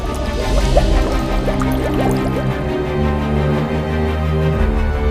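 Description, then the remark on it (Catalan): Water pours steadily into a gourd, gurgling and splashing, its pitch rising as the vessel fills over a few seconds, with no voices. The water is from the spring of the Mas del Comte farmhouse, by the royal road from La Jonquera to Perpignan. “L'endemà mateix se'n va anar al Mas del Comte, que es troba tocant el camí ral de la Jonquera a Perpinyà, va omplir una carabassa d'aigua de la font del mas i va fer bullir 9 vegades una bona escorça de freixa.”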